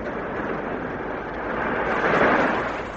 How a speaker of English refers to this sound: It is. I'm sure it's waves breaking on a beach. Yes, it is.